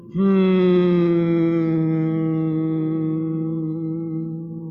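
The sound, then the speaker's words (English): People humming together on one steady, low-pitched note during a guided humming exercise, held unbroken for several seconds at a fairly even loudness that eases off slightly toward the end, with no talking. “Let's put your hands on your chest over your heart and continue to hum.”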